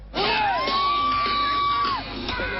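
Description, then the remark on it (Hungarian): A crowd of thousands, including many foreigners, cheers loudly at a New Year's Eve street celebration in Budapest on a cold night welcoming 2008, as one voice lets out a long, sustained whoop that holds a steady pitch before breaking off, with other shouts and yells rising around it. “Budapesten most is ezrek ünnepeltek az utcán, köztük nagyon sok külföldi.”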